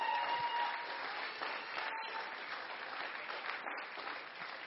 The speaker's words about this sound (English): Why don't you give them a hand clap of appreciation? Amen.